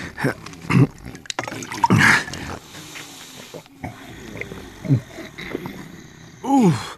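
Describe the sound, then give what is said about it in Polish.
Water pours in short splashing bursts, mixed with wet gulping and throaty grunting noises, with brief pauses between them, as a person drinks a little more water. “Może tylko jeszcze odrobina wody.”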